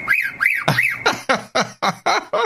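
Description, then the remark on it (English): A mockingbird imitates a car alarm: three rising-and-falling whistled sweeps, then a rapid series of about seven sharp, harsh repeated chirps, loud and steady with no talking. “Car alarm. What? This bird has a car alarm?”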